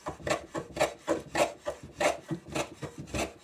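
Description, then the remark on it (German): A hand plane shaves across wood in a workshop in repeated rasping strokes, about seven broad swishes in steady rhythm, moderately loud with no voices. “Mit dem Hobel bearbeitet er das Holz.”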